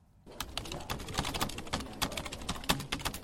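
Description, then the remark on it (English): Rapid, irregular clicking of someone typing on a laptop keyboard, steady, with dense keystrokes continuing for a few seconds after a brief quiet start. No voices. “You're in a business meeting making confidential notes on your laptop, but by simply placing a smartphone on the table, researchers in Texas have shown they can find out what you're typing from the sound of your keystrokes.”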